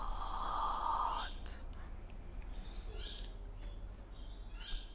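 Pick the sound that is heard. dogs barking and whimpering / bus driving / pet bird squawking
pet bird squawking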